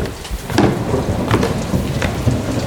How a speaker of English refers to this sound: What do you mean, sleeping through this storm?